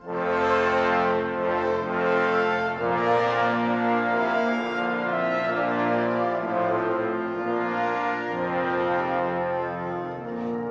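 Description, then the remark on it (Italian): Two choirs trade phrases back and forth in an echo-like exchange, sustained rich chords swelling and shifting every couple of seconds at a fairly steady, full loudness, with no talking. “Sentite l'effetto di eco.”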